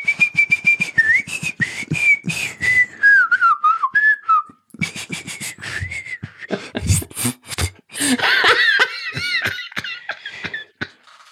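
A person whistles a wavering melody up close, the pitch sliding and dipping across several phrases, with a brief pause midway and a shakier, warbling stretch toward the end. No one speaks.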